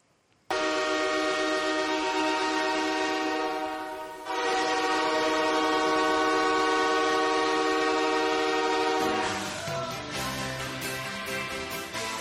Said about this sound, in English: we like to preview a different goal horn every week, see if you can name it. And this one's a good one. You like this one? Starts off kind of weak.